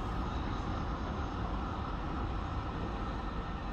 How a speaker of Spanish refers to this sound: Pero la broma queda atrás, y el tren ya hace un buen rato que surca a buen ritmo cantidad de campos de cereal que recuerdan más bien a los paisajes conquenses de la península ibérica que a los de un país como Serbia.